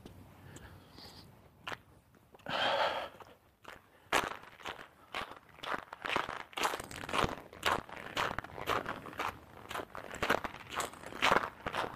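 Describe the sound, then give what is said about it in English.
Steady footsteps crunch through fresh snow that fell the day before over a little ice, each step a crisp crackle in an even walking rhythm, with no voices present. “So this crunching you may have been able to hear, it snowed yesterday.”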